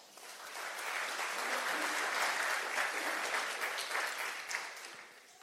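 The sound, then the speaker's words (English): A crowd applauds steadily for about five seconds, a dense wash of many hands clapping that swells quickly, holds at a fairly loud level, then tapers off at the end. No one speaks. “Give her a clap.”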